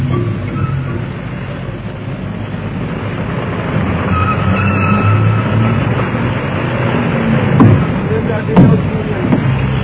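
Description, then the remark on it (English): A yellow car's engine rumbles steadily with the low hiss of tyres rolling underneath, a continuous drone that swells slightly near the end, with faint voices mixed in. “Yeah, one of the most beautiful cars I've ever seen.”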